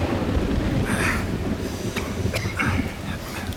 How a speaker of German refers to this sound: Verdammter Regen!